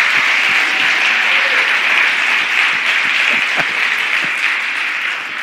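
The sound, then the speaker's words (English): An audience claps together in a loud, steady, dense wash of applause that holds for several seconds, tapering slightly at the end, with no voices heard over it. “Can y'all do that again? Just clap a little bit.”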